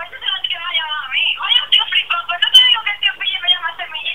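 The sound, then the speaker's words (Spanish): A phone rings with an incoming call, a melodic ringtone that plays continuously through a small, tinny speaker, fairly loud, for the whole stretch. “Espera que me está llamando.”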